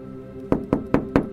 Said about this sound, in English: I'm going to knock on the glass. Hello?